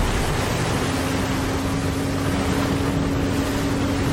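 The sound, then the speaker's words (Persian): A loud, steady roar of engines at maximum power with the fuel systems set, a dense rumbling drone with a sustained hum running through it, constant with no pauses or voices. “سیستم های سوختی تنظیم شدن و موتورها در حد اکثر قدرتن.”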